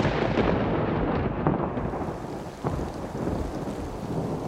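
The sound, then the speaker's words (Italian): Thunder rumbles heavily and continuously, a loud low roar with a sharper crack partway through, layered over steady rain with no voices. “Vabbè, i tuoni mi sembra un po' eccessivo, ho solo detto videogiochi.”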